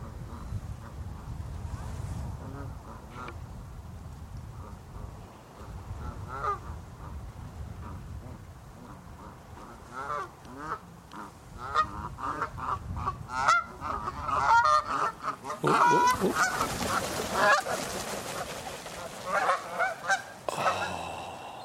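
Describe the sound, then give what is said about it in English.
A flock of about a dozen Canada geese honks repeatedly in overlapping calls, building in intensity, with low wind rumble underneath and a burst of wingbeats and louder honking near the end as they fly up over water toward the low sun. “It would have been this beautiful silhouette of a dozen Canada geese against the low sun reflecting on the water.”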